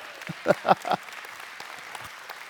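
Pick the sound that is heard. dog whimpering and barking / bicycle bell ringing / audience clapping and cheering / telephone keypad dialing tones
audience clapping and cheering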